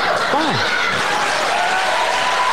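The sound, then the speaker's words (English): Steady applause from an audience, mixed with scattered laughter and a brief vocal whoop near the start, holding at an even, moderate level throughout. “I love the way, like, it's very rude to say that, but I love the way the sheep all just applaud.”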